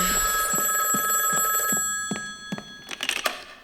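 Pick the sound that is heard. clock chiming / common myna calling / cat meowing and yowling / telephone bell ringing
telephone bell ringing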